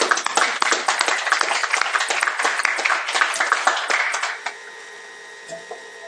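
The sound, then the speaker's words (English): A group at a committee meeting breaks into steady applause for the LRC staff, a dense patter of many hands clapping at once, loud and even for a few seconds before stopping abruptly and leaving only a faint hum. “want to thank our LRC staff for all their help this year, and we'd like to give them a little token of our thanks, and I guess I would ask for a quick round of applause.”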